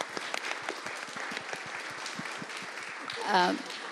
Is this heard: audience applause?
yes